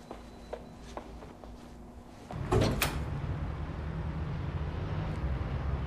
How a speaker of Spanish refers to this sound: Anda, ve a lavarte. Yo abriré la puerta.